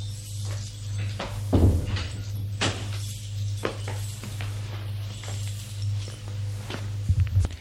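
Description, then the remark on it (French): The left-hand apartment door on the third floor of a building clunks open, then irregular footsteps move across the floor as people enter, steady but unhurried, over a constant low electrical hum with no voices. “Au 3e, il ouvre la porte de gauche. Entrez.”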